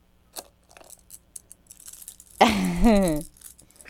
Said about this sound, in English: Oh, keys. You gonna put keys on the pizza?